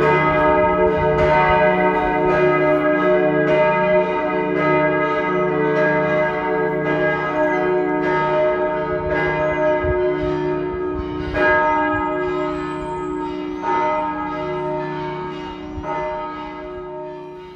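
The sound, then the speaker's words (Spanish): Church bells of copper and tin peal continuously in overlapping, resonant strikes, their ringing tones sustaining and blending into a dense wash that fades slightly toward the end. No voices are heard. “Suena en la piedra, golpea el eco en las paredes, el cobre y el estaño cantan. Las campanas viven en verano siempre, porque su sonido está hecho de calor.”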